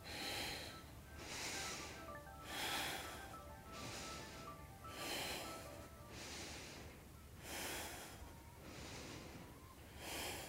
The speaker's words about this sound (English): And you're just breathing. Exhale as you come up and inhale as you go down.